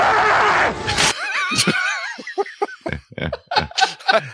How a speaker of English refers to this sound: And then Ford angry acting yell thing when he's still on the bike.